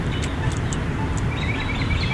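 An audible pedestrian crossing signal at a bus stop, heard from both sides of the street, chirps in a quick series of short, high-pitched tweets over steady traffic rumble and street noise, with a car coming.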